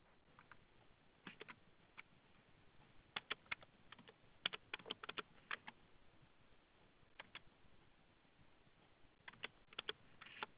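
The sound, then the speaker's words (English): Quiet keyboard typing of an email address into a sign-up form, in irregular bursts of light clicks and taps, with short pauses between flurries of keystrokes and no talking. “Now it's clicking on, it wants my email again. So I'll do that.”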